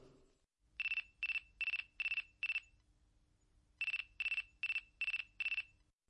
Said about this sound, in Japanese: 私の携帯電話が鳴ったのはそれから一月後のことだった。